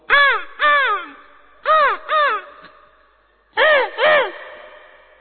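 A crow caws in three paired bursts, each two harsh, nasal calls close together, loud, with short pauses between pairs and no other sounds.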